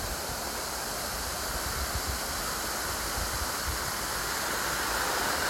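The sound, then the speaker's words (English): Steady, dense rushing water from a pond pours continuously over a sluice gate toward a stream leading to a mill, a broad hiss with a low rumbling undertone. No voices, just the constant flow throughout. “And just a little bit further on in front of me, you may be held to hear the rushing water as it glides over the sluice gate towards the stream, taking it towards the mill.”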